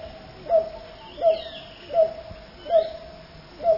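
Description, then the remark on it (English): A sungrebe, a duck-sized water bird of Central and South America, calls: five hollow, hooting notes evenly spaced in a steady rhythm, moderately loud, with no voices present. “It's the sun grebe of Central and South America.”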